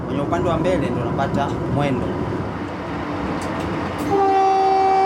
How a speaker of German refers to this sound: Der elektrifizierte Zug SGR ist der modernste in Ostafrika.